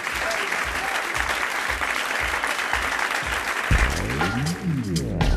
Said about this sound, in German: Willkommen unser Publikum hier im Saal 1. Bitte begrüßt mit einem herzlichen Applaus den Autor von Chantal, tu mal die Oma winken, Kai Twilfer in 1 Live Clubbing.